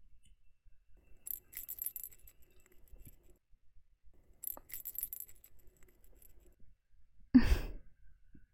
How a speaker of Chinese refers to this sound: 平时都是在电话里面听到这个铃铛的声音，今天倒是响在耳边了。